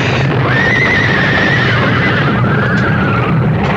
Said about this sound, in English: Coming off the bridge, the lead horse panicked, pulling the whole rig to the right, so that what was coming was inevitable.